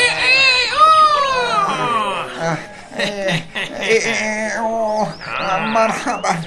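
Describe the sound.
A person imitates a rooster crowing with a loud, strained, high-pitched call at the start, then keeps talking in an animated, sing-song voice.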